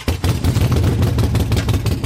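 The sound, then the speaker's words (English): A stock Harley Sportster motorcycle's exhaust growls loud, firing in a rapid, uneven loping rhythm of deep pulses with a rough crackle on top. No one speaks. “Notice that classic growl, what riders call the potato-potato coming out of the exhaust.”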